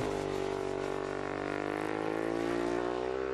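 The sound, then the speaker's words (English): A Ducati 1098R racing superbike from a Xerox-sponsored team screams at high revs, a loud, steady whine that climbs slightly in pitch over a few seconds, with no voices. “That's a Ducati 1098R. Xerox sponsors a team of the racing superbikes.”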